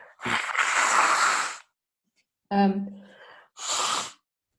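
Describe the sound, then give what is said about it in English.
Someone blows their nose: a long, forceful honking blast, a short voiced grunt, then a second, briefer blow. “Blow my nose.”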